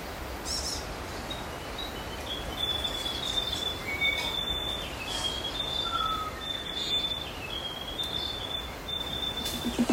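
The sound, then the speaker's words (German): Many birds call through a dense New Zealand forest, with bright, thin whistles repeating at high pitch over a steady wash of rustling background noise; a tui whistles again and again in the background. “Und in diesem Wald, da leben ziemlich viele Vögel. Manche hören sich an, als würden sie sich streiten. Andere wie ein Zug.”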